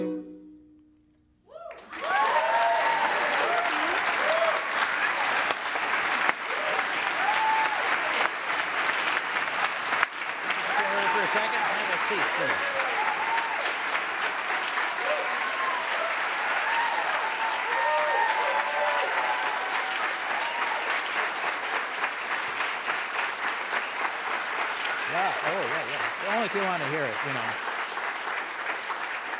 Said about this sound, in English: Did you want to hear your own applause? Is that the idea? Oh, yeah. Can you just amplify it? Have it on loop for me.